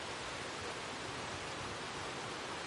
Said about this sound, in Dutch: En dat geluid erbij, dat was eigenlijk ook... Ging me ook een beetje om dat geluid van die ruis. U kent dat vast wel. Als je binnen zit in je huis en dan stormt het buiten.